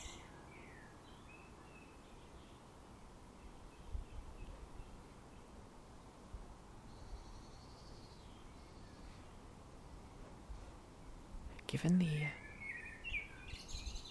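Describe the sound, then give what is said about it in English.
A loud blackbird sings in a garden after days of rain and wind, its short, fluting phrases coming intermittently over a steady outdoor hiss, with a brief rustle near the end. “There's a really, really loud blackbird in my garden right now.”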